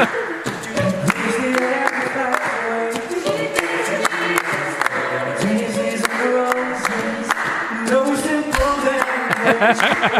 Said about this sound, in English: Uh-oh. Clapping any louder. It's so loud. I just want to hear him sing.